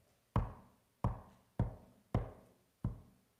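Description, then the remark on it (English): Five solid knocks on a wooden door, distinct, in a slightly uneven rhythm with a brief gap before the last one. No voices. “And the whole thing, the whole of creation, the whole barnyard is vulnerable because God is vulnerable and chooses to stand at the door and knock.”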